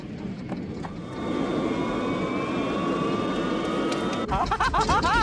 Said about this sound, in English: Horrified, Archie runs off towards a plane about to depart.